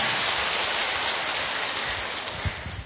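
A large audience of Buddhist followers in a temple hall claps loudly at the speaker's request, a dense, steady wash of many hands with no individual claps standing out, easing slightly toward the end. No one speaks over it.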